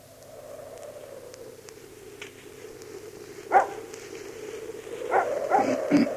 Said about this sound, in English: You're that blooming dog. Something must have disturbed him.